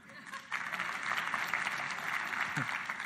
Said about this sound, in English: Everybody claps when we say your name for some reason. I love it.